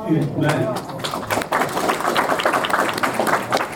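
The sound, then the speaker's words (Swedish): A voice briefly at the start gives way to steady, dense applause at the Synskadades Riksförbund Skåne representatives' meeting in Malmö, 2021-11-20, as a statement is unanimously adopted, many hands clapping and holding at an even level to the end. “Och det var ett helt enigt möte som efter applåder antog uttalandet.”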